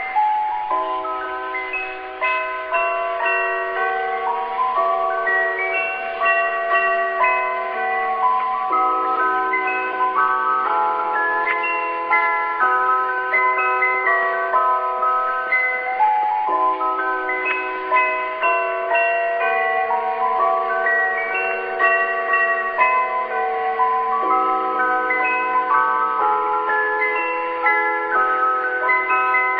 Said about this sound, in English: It's a bit of a tune that I'll play on my chime that I've got with me here. So listen, dear children, to some real Christmas cheer.